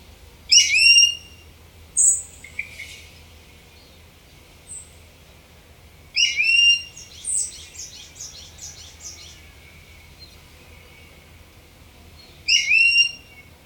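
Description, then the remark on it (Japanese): Loud, high-pitched calls of an Ishigaki brown-eared bulbul, a subspecies of brown-eared bulbul, ring out in three separate bursts of sharp, descending notes, with a few thinner chirps between them, over faint low background hum. “この高い鳴き声は石垣ヒヨドリ特有のものです。”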